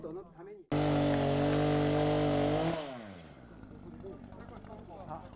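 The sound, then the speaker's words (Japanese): A chainsaw suddenly roars at full throttle, holding a loud steady whine for about two seconds before revving down and idling, with voices faintly audible around it, during a local training session on removing fallen trees so that men get used to using chainsaws. “倒木の除去をするため の、 訓練で、チェーンソーに慣れてもらうために、まあ、男の人は使い方が分かっていってほしいなということでやってます。”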